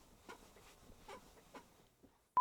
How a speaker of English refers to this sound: This chair is so creaky. Listen to that.